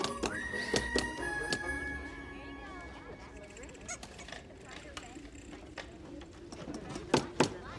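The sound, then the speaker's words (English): Sharp metallic taps as Buddy, at a low table among elves, fits the front onto an Etch-a-Sketch and taps its corners with a tiny hammer, struck in irregular clusters with pauses between, over a low steady background hum; a faint whine lingers through the first half. “Fitting the front in place, he taps the corners with a tiny hammer.”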